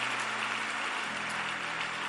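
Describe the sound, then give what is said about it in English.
An audience claps steadily during a sermon, a dense, sustained patter of many hands filling the space at moderate loudness, with no voices standing out above it. “Oh, I didn't hear your clapping.”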